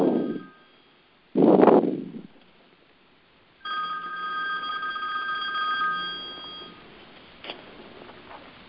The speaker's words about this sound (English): Or you may receive a phone call.